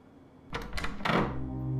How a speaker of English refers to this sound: The doors swing wide with the softest of pushes. They're unlocked as only a fool might seek uninvited entry to this place.